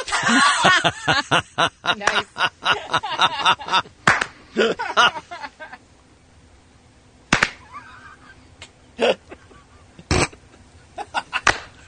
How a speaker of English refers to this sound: Hey, we should speed up the slow clap just a little bit. There you go, ladies and gentlemen.